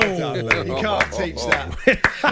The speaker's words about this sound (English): I've mocked the moose for applauding radio, and I'm applauding the radio right now.